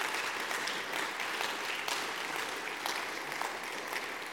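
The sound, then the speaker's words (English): An audience claps steadily for volunteers who gave time to work with students, a dense, even wash of many hands at a moderate level with no voices breaking through. “Please clap for them.”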